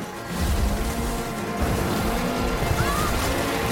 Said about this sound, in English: Container ship surges through the water, leaving its long, turbulent wake, which tosses the skiff behind it.